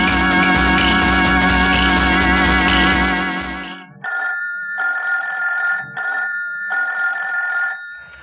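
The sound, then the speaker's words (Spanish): A loud telephone rings in repeated bursts, a shrill metallic trill that cuts in and out with short pauses, following a fading swell of music; the phone rings at night in a town near Offenburg. “un timbre telefónico ha repiqueteado en cierta ciudad cercana a la población de Offenburgo.”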